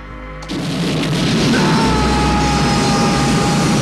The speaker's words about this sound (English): reaches down and starts the sled's rocket engine.